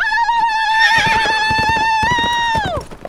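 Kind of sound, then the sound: animal, horse neighing and hooves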